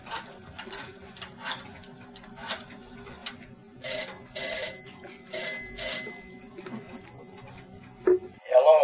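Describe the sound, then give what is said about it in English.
A rotary telephone dial whirs and clicks through several numbers, then a loud telephone bell rings in repeated bursts. A brief voice is heard at the very end. “Mind if I use your phone?”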